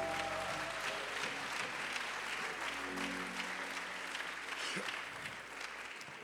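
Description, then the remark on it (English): An audience, asked to give themselves a hand clap, applauds steadily, many hands clapping in a dense, sustained wash of sound, easing off slightly toward the end. “Lo hicieron Give yourselves a hand clap right Denle now.”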